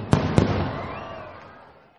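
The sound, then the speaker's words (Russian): Two sharp firecracker bangs go off in quick succession, followed by crackling and a long, fading rumble of fireworks echoing. “я до сих пор ненавижу новогодние праздники и всех тех людей, которые, значит, не понимая, как это может травмировать других, просто ради прикола выходят и начинают запускать, значит, все эти петарды, взрывы и прочее дерьмо.”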